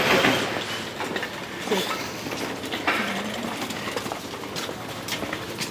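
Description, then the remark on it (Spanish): A tram rumbles steadily along its rails, with a broad rushing roar and scattered clacks and rattles from the wheels, continuous throughout, with faint voices mixed in. “¿Salimos otra vez al tranvía?”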